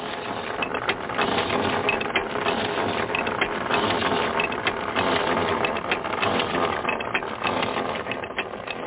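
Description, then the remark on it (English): A well drilling rig runs in the mountains, drilling a well: continuous mechanical clatter with rapid ratcheting clicks and grinding gear noise over a low rumbling drone, loud and unbroken throughout. “Drilling continues.”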